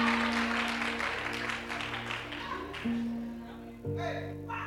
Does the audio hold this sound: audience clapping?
yes